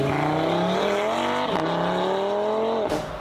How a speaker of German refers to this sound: Du lässt mal schnell den Motor aufheulen und dann bist du weg und hast Leute aus dem Schlaf geweckt, aber finden tut dich danach eigentlich niemand.